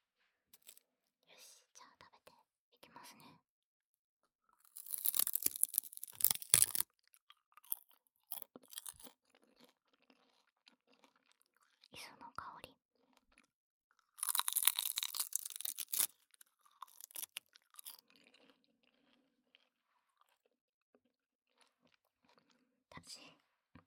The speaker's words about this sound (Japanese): 小腹空いた時によく海苔食べてる。だってカロリーほぼゼロだもん。